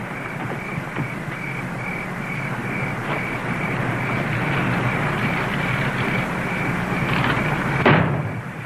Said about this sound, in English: What was that? It sounded like the back door slamming shut, didn't it?